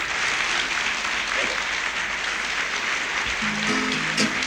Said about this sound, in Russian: Спасибо, дорогие. Вы знаете, я вам так скажу, я уже об этом говорил. Аплодисменты — это очень приятно. И действительно, это когда так благодарят, да еще поутру так рано. Вот, это очень приятно.